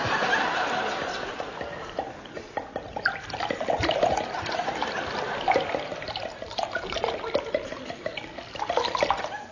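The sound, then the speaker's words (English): A drink is poured into a glass, a steady, splashy gurgle running for several seconds with small clinks and bursts as the flow shifts. “Have another? Just a small one, please.”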